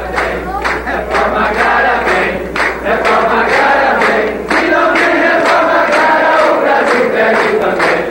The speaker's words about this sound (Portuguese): No começo da tarde, trabalhadores rurais ocuparam o corredor que dá acesso ao plenário e saudaram cada constituinte que passava com músicas e palmas pedindo a reforma agrária.